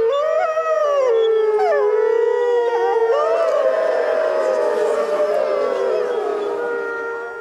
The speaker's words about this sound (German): Wir können aber mal kurz in eine Aufzeichnung reinhören. Schon ein wirklich nettes Schauspiel, wenn hunderte Menschen und ein Rudel Wölfe sich gegenseitig anheulen.